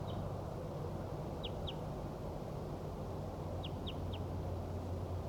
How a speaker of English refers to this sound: The wild bird is still calling from 30 meters south down the hollow.